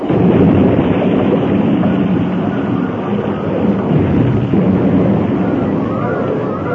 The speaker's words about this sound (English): The cars left the rails at the turn and rolled over and over until they crashed into the great boulders that lined the slope.